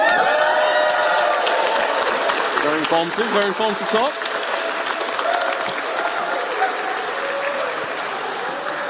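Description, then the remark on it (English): A crowd applauds and cheers for the second speaker in a steady, dense wash of clapping that continues throughout, with a few voices calling out and a person speaking briefly over the noise. “Can we also have a cheer for Speaker 2?”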